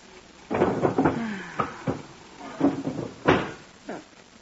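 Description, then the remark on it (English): The empty bottom drawer of a wooden bureau sliding open and pushed shut, a cluster of scrapes and soft knocks followed by a few separate thumps, with no talking. “Put it in the bottom drawer of the bureau.”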